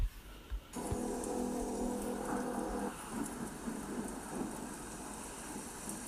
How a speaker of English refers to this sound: I mean, this is like a sound effects app as well as a relaxation app, because they are really evocative sounds. Just thunderstorm, it's maybe one of the best ones here.